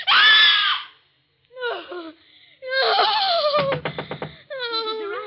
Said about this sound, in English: What's wrong? Why were you screaming?